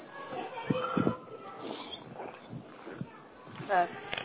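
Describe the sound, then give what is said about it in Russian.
Children in a school after-school group shout and chatter in the background, a busy, continuous jumble of young voices with sharper yells bursting out now and then, one louder cry near the end. “Тихо, хватит кричать.”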